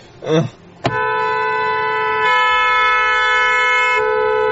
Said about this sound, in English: Jeffy, get off the horn, Jeffy. Huh? Well, you're on the horn, Jeffy.